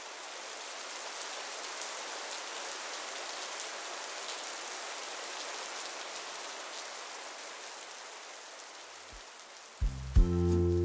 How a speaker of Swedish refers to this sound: Det har börjat regna lite utanför, så vi skyndar oss in.